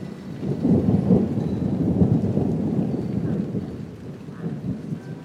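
Steady heavy rain pours down in Sydney with a deep, rolling rumble of thunder swelling underneath, loud and continuous for several seconds before easing slightly toward the end.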